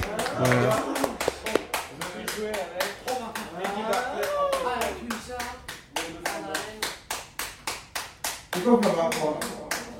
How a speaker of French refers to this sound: Ah, il arrête plus d'applaudir.